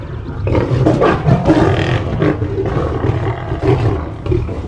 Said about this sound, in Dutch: Hij zal laten zien dat hij een sterke leeuw is. Hij brult zo hard als hij kan.